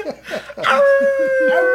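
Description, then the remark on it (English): A person lets out a long, steady dog-like howl, a held pitched tone lasting about a second after a few short vocal bursts, with faint murmuring or laughter underneath. “I'm telling you, I'm turning into a dog.”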